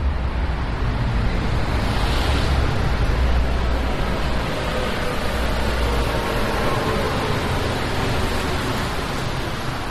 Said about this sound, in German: Bis Mitternacht quietscht die Metro auf ihren 80 Gummireifen pro Zug durch den Untergrund oder saust oberirdisch am allabendlichen Verkehrschaos vorbei.